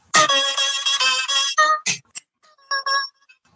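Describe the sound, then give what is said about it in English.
A phone ringtone plays the theme music of a video game: a bright electronic melody with a loud run of rapid synthesized notes, then a few shorter sparse tones trailing off, with no one talking. “It dawned on me, and I don't know how much I can play this legally, but I remembered that I had on my phone this for my ringtone.”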